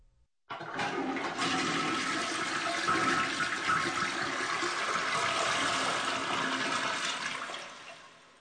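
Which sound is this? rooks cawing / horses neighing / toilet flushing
toilet flushing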